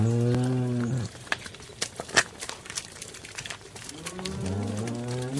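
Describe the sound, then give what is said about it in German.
A cow moos loudly, a long low call, then after a pause of scattered clicks and rustling it moos again. No voices are heard. “Bevor mich aber mein Nachbar hinterrücks erschlägt, packe ich doch lieber meine Sachen, lade sie meiner Kuh auf und begebe mich auf die Wanderschaft.”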